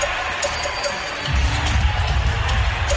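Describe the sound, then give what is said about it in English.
A loud basketball arena crowd roars continuously for Golden State with Steph Curry in the game. The cheering swells partway through into a deeper, fuller rumble of many voices, with no one speaking over it. “Feels like Golden State has a 30-point lead the way this crowd reacts with Steph in the game.”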